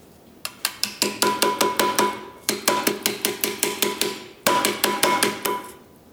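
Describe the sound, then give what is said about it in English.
Rapid, steady hammer blows ring out on soft copper cookware in three bursts with brief pauses between, each strike sharp with a bright metallic ring. No voices. “Now we get to hammer.”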